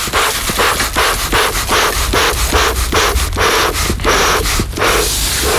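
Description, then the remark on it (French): A beekeeper's smoker being worked to disorient the bees and drive them back into the hive: a steady run of rough, airy puffs and creaks from the bellows, about a dozen in quick rhythm, fairly loud with no talking. “C'est un enfumoir. Ça sert un petit peu à désorienter les abeilles, les endormir, et puis surtout les faire revenir dans le corps de la ruche.”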